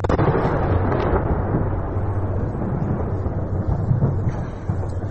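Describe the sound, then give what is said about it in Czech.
Russian missile strikes in a shelling attack targeting the airfield in Ivano-Frankivsk explode in a continuous deep, rumbling roar that stays heavy and steady throughout, like rolling thunder, with no distinct separate blasts and no voices. “Так пасують російські ракети. Почався обстріл.”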